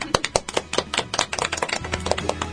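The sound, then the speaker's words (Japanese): A small group claps for a few seconds during a radio broadcast: sharp, irregular hand claps overlapping in a quick patter, fairly steady in loudness, with no one talking. “はい、拍手。”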